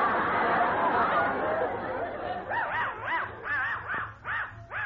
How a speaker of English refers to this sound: Hey, Loco, where'd you get that funny looking dog? He looks like a... He looks like a frankfurter with legs. Well, that's a present for you. This dog is a genuine dachshund.